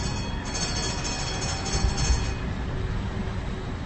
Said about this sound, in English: It's a Wednesday afternoon and the old T3 tram is making its way through the busy traffic.